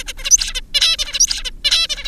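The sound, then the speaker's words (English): An adult zebra finch sings alone, repeating the same buzzy, harmonic phrase four times in a quick, steady rhythm with brief pauses between. “The birds we work with are zebra finches.”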